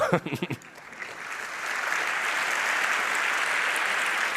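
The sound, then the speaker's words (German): A brief stretch of speech gives way to sustained audience applause for the event's organizing team coming on stage, a dense, steady wash of clapping from a sizable crowd that builds quickly and holds at an even, fairly loud level. “Ja, und einen ganz großen Dank und auch Applaus auf jeden Fall an die Chororga, die hier auf die Bühne kommen soll.”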